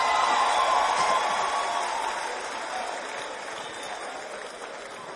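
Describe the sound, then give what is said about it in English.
An audience at a church service claps for itself steadily in a dense wash of applause, loud at first and slowly easing off over five seconds, with no voices rising above it. “Clap for yourself.”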